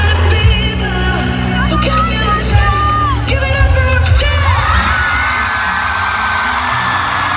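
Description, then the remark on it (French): A dense roar of a concert crowd in Antwerp, Belgium, cheering loudly and steadily, with whoops and high shouts rising over a low rumbling wash of noise throughout. “Voilà, donc une foule en délire, évidemment.”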